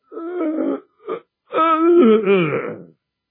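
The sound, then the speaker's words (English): A voice imitates the wordless groaning of a man in a wheelchair who could not articulate a word: two low moans, a brief grunt, then a longer, wavering groan that rises and falls in pitch, fairly loud and without any words. “I remember being frightened, first of all, as a little fellow, and then being fascinated by the way he would sit in his chair, and suddenly you would hear these groans.”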